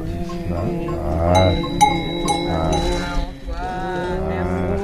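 Cowbells clank among a herd of cows, a dense, continuous jangle of overlapping metallic tones with a few sharper strikes standing out, fairly loud throughout.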